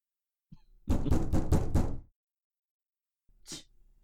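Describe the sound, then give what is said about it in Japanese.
Someone raps on a door in a quick, insistent burst of about five loud knocks, then after a pause comes one more single knock, with no voices. It is a home tutor knocking persistently at the door. “またあの家庭教師がしつこくノックしているな。”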